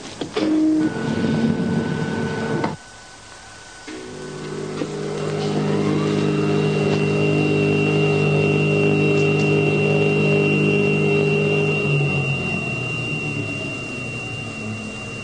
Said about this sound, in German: Mit einem Aufzug fahren die zwei in die Tiefe.